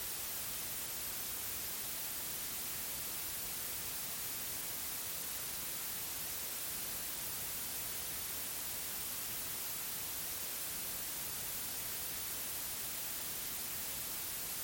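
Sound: white noise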